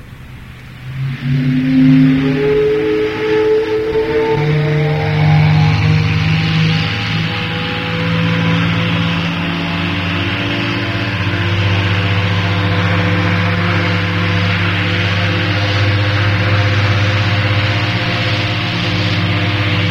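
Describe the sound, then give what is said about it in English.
The biggest steam whistle ever made for a Mississippi steamboat sounds one long, loud blast. Its deep, chord-like tone swells up at the start, then holds steady over a breathy hiss for nearly twenty seconds, with no talking. “But the old whistle is here today, and when you hear it, you've heard the voice of the biggest steam whistle ever made for a Mississippi steamboat.”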